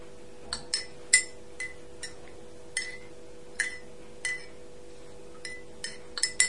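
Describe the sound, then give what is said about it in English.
A spoon stirring honey into very hot water clinks against the inside of a cup in a quick, uneven series of bright, high ticks, some doubled, over a faint steady hum with no talking. “Yeah, go and stir it round and round.”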